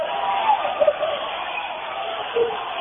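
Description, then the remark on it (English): Crowd cheering at a volleyball match between Nemaha Central and Royal Valley: a steady roar of many voices, with a few sharp shouts and whoops rising above the noise. “The crowd is electric here.”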